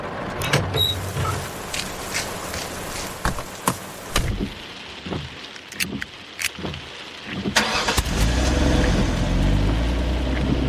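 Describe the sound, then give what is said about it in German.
Herr Teckelmann's car: several sharp clicks and door thuds, then the engine turns over and settles into a steady, rising rumble as it pulls away. No one speaks. “Wenige Minuten nach dem Anruf hörten Timo und Corgi auch schon sein Auto.”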